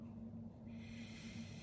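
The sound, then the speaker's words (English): A slow, deep breath drawn in through the nose, an airy rushing sound that swells after a moment and holds steady, quiet over a faint low hum. “Breathing in, connecting to the purity of our neshama.”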